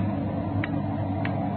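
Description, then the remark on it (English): A clock ticks steadily, two crisp, evenly spaced ticks standing out over a constant low background hum, with no voices present. “Sure a loud clock.”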